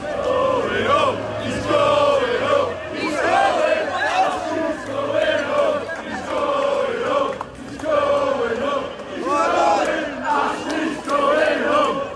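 A loud crowd of Newcastle United football fans chants and sings outside St James's Park stadium after the club's sale was confirmed, many voices rising in sustained, rhythmic chants with only a brief lull partway through before surging again.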